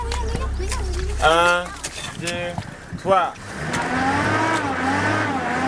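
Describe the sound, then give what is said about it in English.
A Land Cruiser 4x4 stuck in mud: its engine drones low, then revs up in a long, straining whine, with a few short shouted voices of village children digging and pushing breaking in over the motor. “But the Land Cruiser wouldn't budge.”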